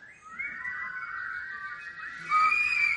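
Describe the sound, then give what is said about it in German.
A crowd of people whistling together, asked to whistle during a sermon: many overlapping high, steady tones blending into a continuous shrill chorus that swells louder toward the end, with no talking. “Also da pfeift schon mal, oder?”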